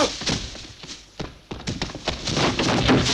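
Horse hooves clatter and thump in an uneven series of sharp hits, loud, with heavier thuds mixed in over a busy background.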